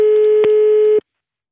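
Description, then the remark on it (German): A single steady ringback tone of a call to the mobile phone of a fairground ride operator in Neumarkt in der Oberpfalz, Germany, sounds for about one second, clear, with a faint click partway through before it cuts off into silence. “Ich habe ihn mal auf dem Handy angerufen.”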